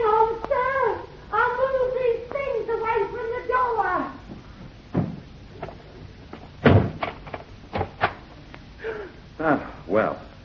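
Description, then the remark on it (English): A door creaks open with long, wavering squeals over several seconds, followed by a run of sharp clicks and knocks from the latch and frame. “Prudence, open this door.”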